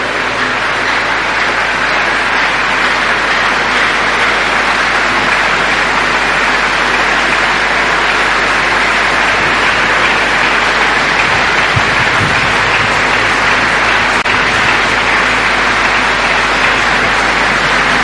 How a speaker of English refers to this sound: Let's give the Lord a big, big round of applause. Thank you, Father. Come on, give the Lord a big round of applause.